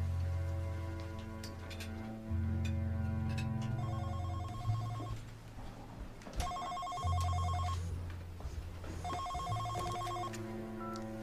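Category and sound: signal or alarm, phone ringing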